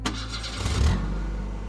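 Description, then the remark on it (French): A car engine cranks and catches as a young man who has left a party starts his car, surging briefly before settling into a steady low idle rumble, with no voices present. “Le jeune homme s'éclipse alors de la soirée et monte dans sa voiture.”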